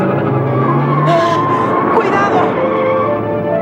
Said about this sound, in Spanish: A por ellos, Estefan. Lanzan el coche contra Tintín y el capitán. Tintín se aparta empujando al capitán.